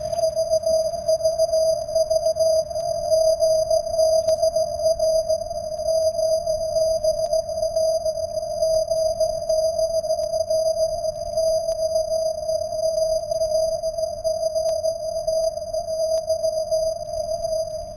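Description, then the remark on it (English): Morse code rendered as a single mid-pitched electronic beep, keyed almost continuously throughout over a bed of low rumbling hiss, with faint steady high whines above it and no voices. “Yeah, that's the Morse converted.”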